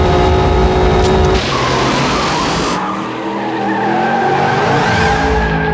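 A car launches hard from a standstill in launch mode, tires squealing loudly as the engine roars and climbs in pitch, intense throughout with no talking.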